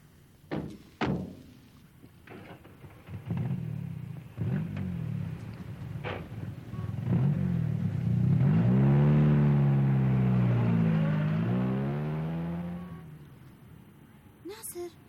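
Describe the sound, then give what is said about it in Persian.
A couple of dull thuds, then a car engine revs up loudly, its pitch sweeping up and down before the sound fades as the car drives off. “ماشینه که برد؟”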